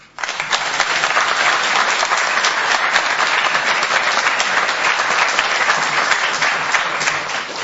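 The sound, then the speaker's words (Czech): An audience breaks into steady applause, a dense, even wash of many hands clapping at once that holds strong for several seconds with no voices over it. “Takže pokud uslyšíte tady nějaký takový ojedinělý potlesk, tak se nezlobte, to jde ze srdce.”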